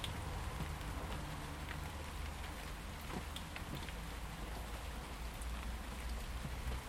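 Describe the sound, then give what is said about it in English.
Steady rain falls on a tidy garden, a dense, continuous patter of drops spread evenly across the whole stretch, with occasional louder splashes and no voices. “Watching and listening to the rain, it's just wonderful.”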